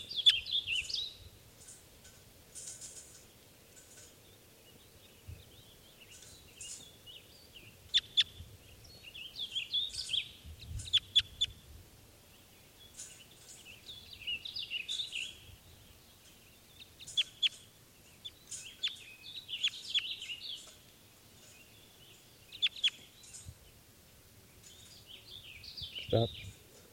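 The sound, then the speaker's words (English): A single lone male bird sings in short, repeated bursts of high, bright chirps and warbles, with brief pauses between phrases, over a soft low rumble for nearly half a minute, after other birds have taken off. “those other birds have taken off, and there's a single lone male here.”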